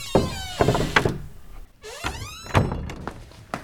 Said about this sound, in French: Il pousse la large porte à double battant et pénètre en courant dans un hall immense.